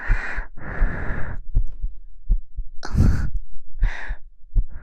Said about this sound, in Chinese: 这里可是姐姐的心口，血液流动的地方。有没有摸到姐姐的心跳呀？有没有？